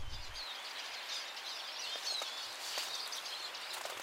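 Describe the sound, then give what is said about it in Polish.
A small flock of Eurasian siskins twitter and chirp continuously on a city housing estate, a busy wash of thin, high calls, fairly quiet and with no talking. “A tutaj, jak podejdę, mamy czyże, o których mówiłem tydzień temu, bo też jestem dziś na miejskim osiedlu.”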